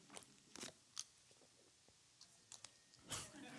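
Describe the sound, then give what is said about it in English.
Someone takes a quick swig of water: a few wet gulping and swallowing sounds spaced irregularly, fairly quiet, with no talking. “This is a swig.”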